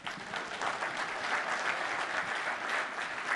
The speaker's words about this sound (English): You're supposed to applaud for that.